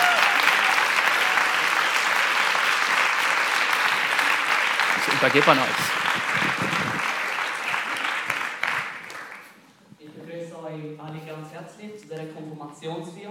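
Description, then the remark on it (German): Sustained applause from an audience fills the first nine seconds, loud and dense, with a brief voice cutting through midway; then the clapping fades and a man speaks clearly. “Wow, ist das nicht ein Applaus wert?”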